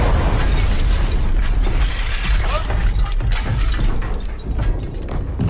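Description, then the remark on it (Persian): A barrage of artillery fire from guns two miles behind the front line, aimed at enemy German guns using coordinates given by an aircraft: dense, loud booms and sharp cracks follow one another without pause over a constant rumbling roar, with no voices heard. “میخواستیم توپای دشمن رو خونسا کنیم، پس توپامون رو برای زدن توپای دشمن تنظیم کردیم.”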